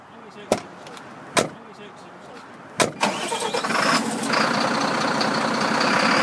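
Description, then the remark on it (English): Three sharp thuds, like a heavy cab door and latches clunking, come before the diesel engine of an 18-ton gritter truck, fitted with a 10-foot wide snowplow and a gritter body, cranks and starts, settling into a loud, steady rumbling idle. “We're sat in an 18-ton truck fitted with a 10-foot wide snowplow with a gritter body attached to it, ready to go out salting.”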